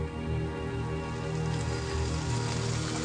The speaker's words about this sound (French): Une pluie légère d'abord, puis qui va en s'épaississant, tombe sur la forêt.